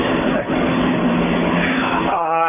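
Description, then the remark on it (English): A truck rumbles past outside with a steady, loud engine roar that fills the moment, and a voice starts to speak just as the noise carries on at the end. “That's a truck.”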